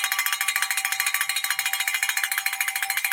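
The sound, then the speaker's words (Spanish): A handbell, the show's 'bell of fortune', rings continuously with rapid, even strokes for about three seconds, its bright metallic clanging steady and fairly loud, with no voices. “saca la campana de la fortuna. Y suena”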